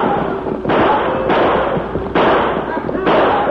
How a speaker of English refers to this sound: The steers, terrified by the thunder and the belching six guns of the men, began to run faster and faster.